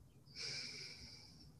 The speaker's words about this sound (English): This is breathing out.